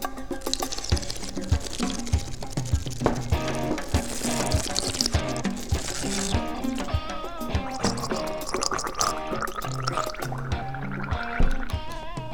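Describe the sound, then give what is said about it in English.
A voice imitates water with continuous gargling and gurgling, bubbly liquid sounds churning steadily for several seconds, fairly loud, with no other talk. “Finally, water.”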